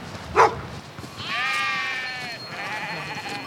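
Hundreds of sheep bleating outdoors around a group of large stone buildings with a fence, with one long wavering bleat standing out over overlapping calls and a brief sharp bark-like sound near the start.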